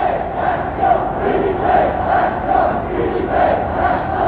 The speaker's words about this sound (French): Et la foule des manifestants reprend ses slogans en les cadençant.